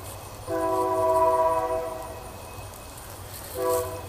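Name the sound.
passing train with horn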